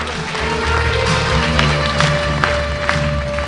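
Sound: audience applause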